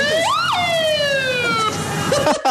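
An ambulance siren wails loudly, a rising swoop followed by a long falling tone with strong harmonics, then another rise begins before cutting off.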